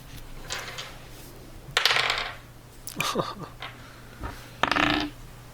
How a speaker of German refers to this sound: wir würfeln einmal Initiative.